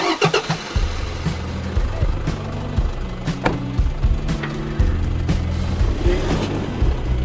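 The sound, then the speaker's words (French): A 4x4 engine cranks briefly and catches, then settles into a steady, low rumbling idle that continues throughout, with occasional clicks and knocks over the hum. “Voilà, je vais garer le 4x4 ici.”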